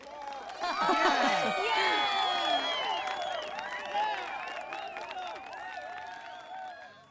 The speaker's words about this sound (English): Mum made a speech to thank everyone, and they all clapped and cheered.